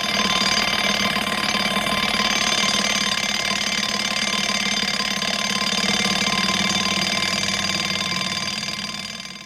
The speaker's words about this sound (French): Dès qu'il entend le réveil, il se lève.